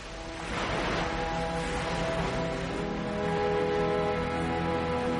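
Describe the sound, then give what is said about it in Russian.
A steady, continuous wash of surf from a rough sea after a storm rolls onto a sandy shore and back out at moderate volume, with faint sustained tones humming underneath and no voices. “Волны, как большие стеклянные горы, набегали на берег и, коснувшись песка, снова отбегали назад.”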